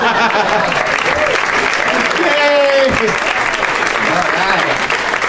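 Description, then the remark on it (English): Loud, sustained applause from a large audience as a guest comes out, a dense continuous wash of clapping with some whoops and a brief voice rising through it. “Did you hear how loud they clapped for me after she came out?”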